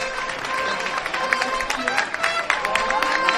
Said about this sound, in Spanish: Se suspenden los cuerpos en estos momentos, se levanta el paso y suena la marcha real que toca la banda municipal de Aral. También los aplausos que acompañan el esfuerzo de los costaleros de esta dolorosísima, perdón, bellísima imagen dolorosa